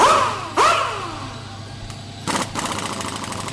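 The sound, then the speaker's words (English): A motorcycle engine idles with a steady low rumble in a motorcycle shop in Lebanon, punctuated by two sharp revs early on and then a rougher, louder stretch of throttle toward the end. “This is Bikers Inc., a motorcycle shop that will soon become the first officially licensed Harley dealership in Lebanon.”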